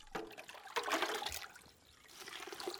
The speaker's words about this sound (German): Vor der Casa de Salud in Triunfo de la Cruz gießt eine Frau den immunstärkenden Tee durch ein großes Sieb.